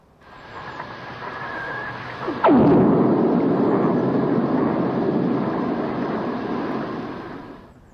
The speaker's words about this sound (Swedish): Om det här är ett blixtnedslag som man har spelat in i Mexikanska golfen. Ett väldigt djupt hav, så det är ett väldigt stort rum och ett härligt eko.